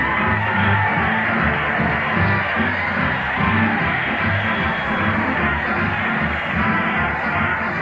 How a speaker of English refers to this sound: Listen to that crowd cheer as Fred Allen leads the parade to the old Town Hall.